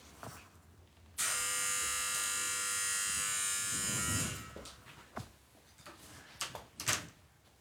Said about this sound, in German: Oh, war das Klingeln? Ich glaube, es hat geklingelt. Ich mach mal kurz die Tür auf, warte kurz.